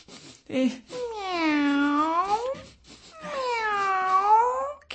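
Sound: cat meowing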